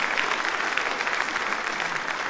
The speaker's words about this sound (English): Let's not get carried away with the applause, because if they gave a fuck, they'd run it.